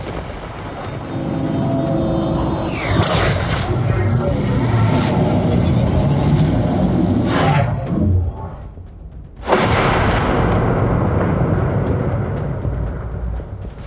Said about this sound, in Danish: Jamen, jeg kaster Thunderwave. Yes. Skjoldet. Kæmpe blæs af torden og lyn kommer ud gennem skjoldet her og rammer begge to.